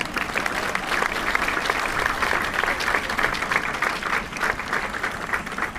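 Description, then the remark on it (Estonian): A crowd claps steadily for several seconds in applause for the Saarte koostöökogu, a dense, even patter of many hands at a constant level without fading. “Ei ole, aga teeme aplausi ikkagi.”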